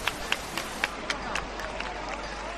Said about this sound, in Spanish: Y ahora sí que el sin pecado enfila la puerta del santuario. Ahora empiezan los aplausos y ahora se va hacia adentro el sin pecado.